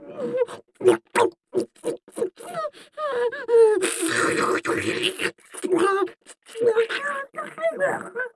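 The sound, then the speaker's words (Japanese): A loud voice makes a crude pig imitation, a quick series of short, nasal oinks and snorts, broken midway by a rushing, breathy burst, then more grunting snorts. “あなたのおちんちんしゃぶりつきながらの下品な豚まね。”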